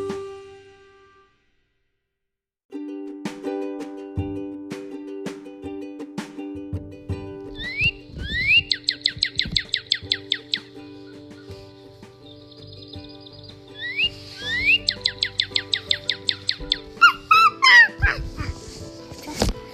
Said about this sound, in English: Heard that call before? That's the sound of our friend, the Northern Cardinal. Cardinalis, cardinalis. What more could a bird do to make itself appealing than have showy red plumage and a fine musical song?